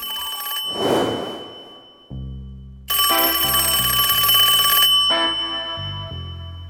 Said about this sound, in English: It was quite late in the afternoon, almost 5 o'clock, when the telephone rang.